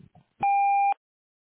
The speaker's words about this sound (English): Please start recording your message after the tone.